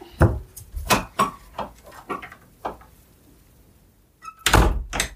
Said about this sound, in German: Wenn du die Tür wieder zumachen könntest, wäre das großartig.